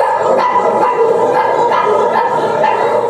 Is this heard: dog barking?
yes